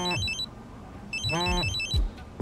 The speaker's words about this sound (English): At that moment, his phone starts ringing.